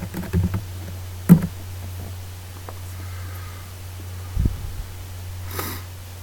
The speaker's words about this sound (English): And we'll SSH to the server and take a look at some files. Let me do a little typing here.